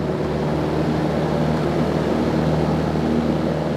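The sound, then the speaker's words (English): A small Cessna propeller plane's engine roars in a loud, steady drone as it takes off on a straight-out departure, with low humming tones running unbroken throughout and no voices. “Can anyone give me a radio check, please? And then, all of a sudden, we're off.”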